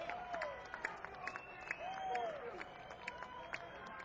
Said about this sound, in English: Thank you, ladies and gentlemen. And even little kids out there cheering. Thank you, little children, for coming.